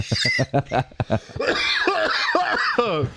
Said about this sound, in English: Well, I almost passed out on that cough. There was a lot of blood rushing my head.